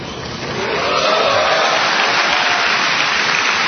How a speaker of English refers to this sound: After the cheering from more than 2,300 mostly National Guard and Reserve soldiers died down